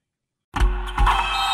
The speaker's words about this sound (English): Oh, no, I meant those blackout motorized shades. MVP of the room.